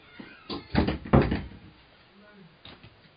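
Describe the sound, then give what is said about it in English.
A door is opened and shut as people step out of the room, a cluster of knocking, rattling thuds over about a second, followed after a pause by one softer bump. “Could you just like step out the door?”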